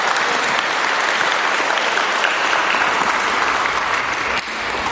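An audience at a church service applauds steadily for several seconds for the people just prayed for and thanked, a dense, even wash of clapping, easing slightly in loudness just before the end.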